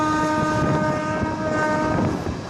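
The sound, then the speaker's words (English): A train horn sounds in one long, steady blast over the loud, continuous rumble of a train rolling along the rails in India. No one speaks. “In India, train classes distinguish between air-conditioned and non-air-conditioned compartments.”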